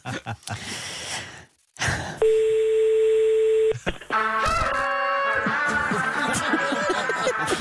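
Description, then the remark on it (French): A telephone is dialed to call the boss of the cement company Lafarge: after some breathy noise, a steady dial tone hums for about a second and a half, then a quick run of touch tones gives way to ringing, music-like electronic tones. “Mais si vous voulez, on va appeler le patron avec qui on était hier.”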